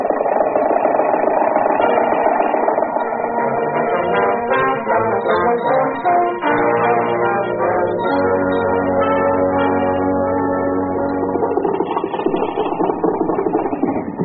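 An early motor car engine runs steadily throughout, a loud, rattling chug with a droning tone that shifts slightly in pitch, heard alone with no voices.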